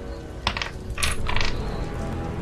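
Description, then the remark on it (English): Dice clatter across a hard tabletop in two quick bursts of sharp, rattling clicks, fairly loud, with no one talking, as a player and his son roll fire damage in a tabletop role-playing game, getting a 3 and a 16. “I let Brock roll my second dice because for cheating, he rolled a 16”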